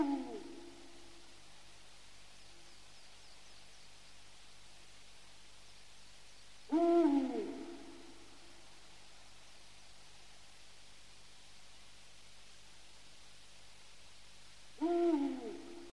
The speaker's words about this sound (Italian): Tra i rapaci notturni ricordiamo il gufo, e il gufo reale.